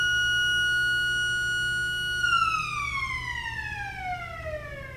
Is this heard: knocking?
no